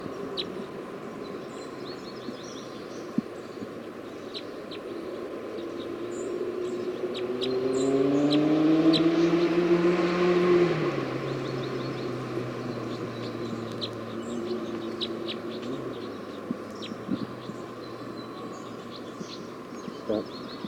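bird calls

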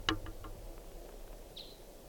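wild bird calls

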